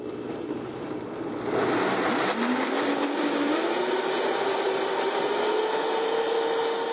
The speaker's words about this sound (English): We'll just take our trusty blender and we can simply pour all the ingredients. And we'll pour that into the Vitamix. And we'll start it slowly.